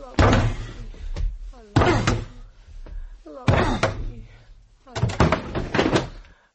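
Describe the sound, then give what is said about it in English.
A locked door with a key in the lock on the inside is yanked and slammed four times in rough succession, each heavy bang followed by a clattering rattle of the frame and latch, with short pauses between the blows. “Open this door, will you?”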